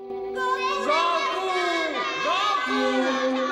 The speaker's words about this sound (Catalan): Els crits arriben a tots els racons del palau.